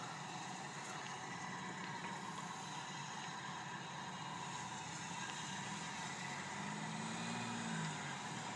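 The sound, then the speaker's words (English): Cars driving past in the Scottish Highlands on the west coast of Scotland, across a small waterway from the Isle of Skye, make a steady, loud road roar with no clear gaps, and a low engine hum swells briefly near the end. No one speaks. “These cars going past really kind of wreck the whole exercise here.”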